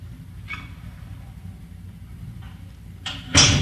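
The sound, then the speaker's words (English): A door opens and closes over a low, steady rumble, with a few soft scrapes before a louder burst of noise near the end as it shuts. “Make sure that, just go out this door right here, that's all right.”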